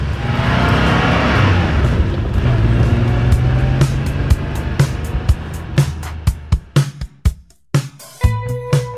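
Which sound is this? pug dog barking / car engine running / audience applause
car engine running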